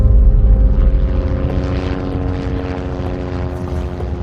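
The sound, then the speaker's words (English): A loud, steady helicopter engine and rotor drone, with a deep low rumble and a sustained mechanical whine that continues without a break and no voices. The first helicopter, carrying the crisis staff including Minister Genscher and Bavarian Prime Minister Franz Josef Strauß, is landing in Fürstenfeldbruck. “The first helicopter is landing in Fürstenfeldbruck, the one with the crisis staff, with police Vice President Georg Wolf, Minister Genscher, Bavarian Prime Minister Franz Josef Strauß, and again Chief Detective Schmidt.”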